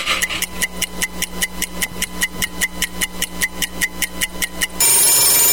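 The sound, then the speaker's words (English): An oven timer, set while a batch of cookies bakes in the oven, goes off with a fast, steady string of bright, bell-like rings, about twenty in a row, then cuts to a burst of loud hissing noise. “And we'll put them in the oven until my timer goes off.”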